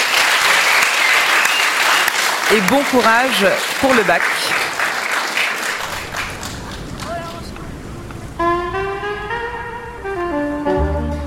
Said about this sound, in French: Et si je pouvais, je vous applaudirais. Applaudissez-vous quand même.